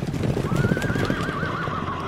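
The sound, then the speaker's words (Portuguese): Hooves of horses galloping in a steady, rumbling rhythm some way off, with a horse's long, wavering whinny rising over them partway through. No one speaks. “Não está ouvindo ao longe um galope de cavalos?”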